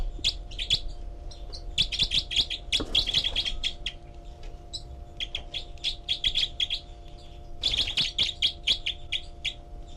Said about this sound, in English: And this is the group of four birds. And 306 is the loud one. 318 giving begging calls. 306 is the secondary caller.